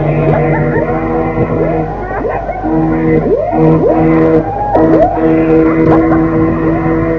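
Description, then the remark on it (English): Hooters of the SS Manxman and another ship blare loudly and continuously, deep, rich tones overlapping one another, each new blast swooping up in pitch before holding steady, with faint voices underneath. “Our hooter is going in the background. Theirs is going in the foreground.”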